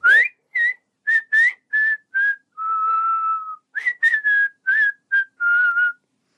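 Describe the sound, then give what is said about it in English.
An 11-year-old child whistles a clear tune: a string of short, bright notes with brief gaps, one longer held note in the middle, then more quick notes toward the end. No talking. “I learned how to whistle. I'm a really good whistler and I've known how to whistle for quite some time now.”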